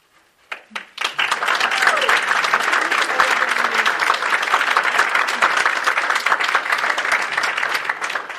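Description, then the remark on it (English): A few scattered claps quickly swell into sustained applause from a sizable audience at a Rockland council meeting, dense and steady for several seconds, with faint voices mixed into the clatter. “I know clap things, one of those things like to do, but we have to really get through it.”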